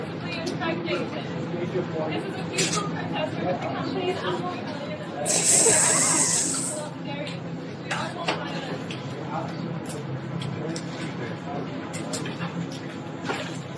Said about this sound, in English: They keep pouring out milk. They're pouring out milk. There's people trying to reason with them. It's like a dozen cartons on the ground. Dozen cartons.